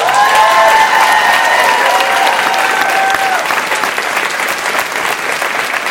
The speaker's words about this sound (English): And finally, I'm sure everyone will be delighted to applaud